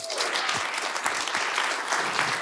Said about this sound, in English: So while we are clapping, let's just have a rousing round of applause for all of our amazing speakers.